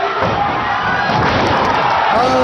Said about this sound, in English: Yeah, so I want to play this video, but there's no real, it just sounds like a guy getting choke slammed.